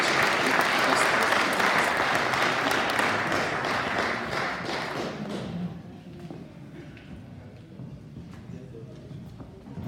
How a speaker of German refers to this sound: Gib ihnen beide mal einen ganz großen Applaus.